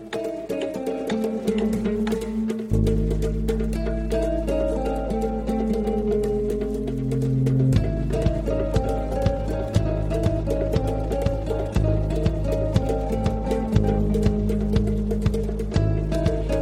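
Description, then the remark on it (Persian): A clock ticks steadily and evenly throughout, its crisp clicks sitting over a sustained bed of low musical tones that shifts partway through. There is no talking. “بله، کافیه گوشات رو تیز کنی تا صدای تیک تک ساعت رو بشنوی.”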